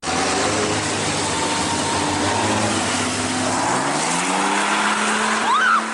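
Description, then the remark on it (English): A truck driving by roars and revs continuously while its tires screech and squeal in a burnout, spraying gravel and black smoke. The harsh rubber noise is loud, with a sharp rising squeal near the end. “Fraternity brothers from a nearby college drove by, hanging out of the back of their truck, shouting hate speech, doing burnouts, and spraying the women with gravel and black smoke.”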